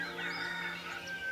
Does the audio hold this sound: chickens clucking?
yes